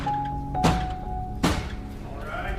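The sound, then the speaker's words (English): Two heavy, blunt thunks of a bailiff banging a brick down hard on a wooden desk to bring a court to order, spaced almost a second apart, loud over a faint steady hum. “Oh, but wait, are we going to start with a bailiff picking up a brick and banging it on the desk to bring the court to order?”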